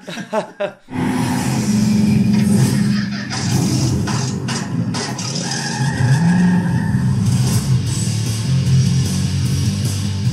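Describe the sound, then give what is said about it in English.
A Dodge Challenger muscle car spins donuts, its engine roaring steadily while tires squeal loudly and continuously, sustained for about ten seconds after a brief opening. “This time on Roadkill, we're doing donuts in a Dodge Challenger.”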